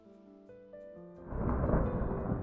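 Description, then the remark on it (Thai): Soft melodic tones give way after about a second to a loud, dense roar of heavy rain and gusting wind, sustained, with no voices: a rainy-season downpour with strong wind blowing through a forest, its trees swaying left and right. “เมื่อเข้าสู่ฤดูฝนมีฝนตกลงมาอย่างหนักลมพัดแรงต้นไม้ในป่าน้อยใหญ่แห่งนี้ต่างก็โยกไปโยกมาเอียงไปทางซ้ายเอียงไปทางขวาตามแรงของลม”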